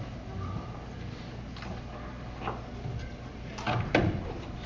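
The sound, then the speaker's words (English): A door is pushed closed, with a soft bump and then a louder clunk and rattle as it latches, against a quiet background hum. “Y'all okay if I shut this door?”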